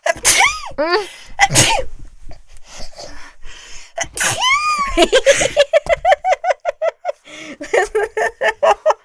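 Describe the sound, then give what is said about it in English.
Several loud, explosive sneezes burst out one after another, followed by a quick run of rhythmic, breathy giggling. “That last sneeze, you went.”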